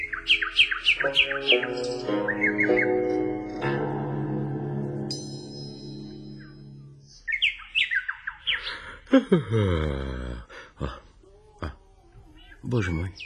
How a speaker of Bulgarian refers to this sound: Мила птичко, ти ме спаси от неумолимата смърт. Ти трябва да останеш завинаги с мен. Ще ми пееш само когато поискаш.